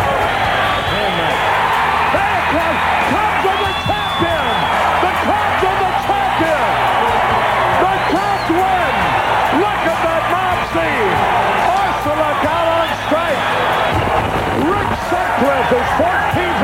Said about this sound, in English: Listen to this crowd. Might as well join them.